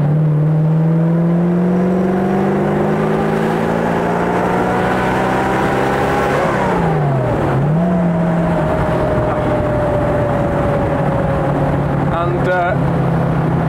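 A vintage Bentley car engine drones loudly, its pitch climbing steadily, then dipping sharply and blipping back up as it downshifts into second gear, before settling into a steady, throaty run.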